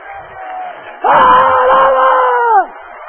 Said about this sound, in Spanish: Sigue, sigue ese aplauso, sigue.